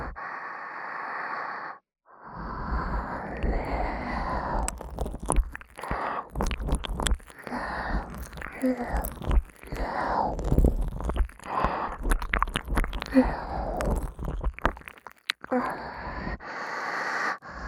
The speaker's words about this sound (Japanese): おとなしくお耳ペロペロされてればいいの。